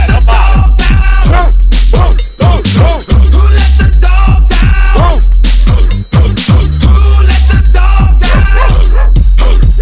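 A loud, thumping dance track played on Radio Globo, with a steady beat, its chorus built from repeated dog barks and yelps layered over the music; there is no speech.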